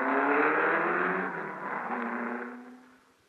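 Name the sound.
race car speeding past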